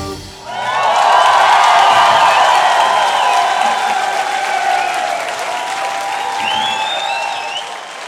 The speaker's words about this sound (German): Vielen Dank dafür! Applaus.